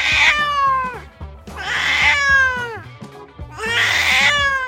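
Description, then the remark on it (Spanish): A cat meows loudly three times in a row, each drawn-out, wailing cry rising and then falling, with short pauses between them and no talking. “Los gatos también lloran a sus muertos.”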